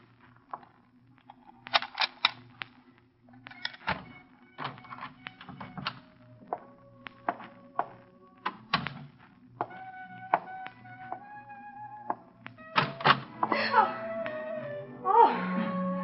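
The back door of an apartment being opened: a run of sharp clicks and rattling taps, like a latch and lock being worked, followed by thin squeaking creaks from the hinges toward the end.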